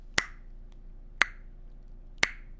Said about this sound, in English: Until finally, at the last house, on the last street, at the very edge of the kingdom, the prince walked up to the door and he knocked.